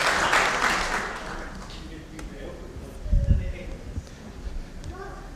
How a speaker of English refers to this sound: Eggs, snacks, thank you so much. Let's have a wee round of applause for our volunteers there. You can head back to your seats. Thank you so much.